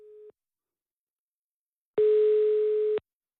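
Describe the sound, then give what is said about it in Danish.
A telephone ringing tone heard while calling a friend: a short tail of one steady mid-pitched beep, a pause, then a full one-second tone, clear, with no voices. “vi skal ringe op til Søren, tror jeg her”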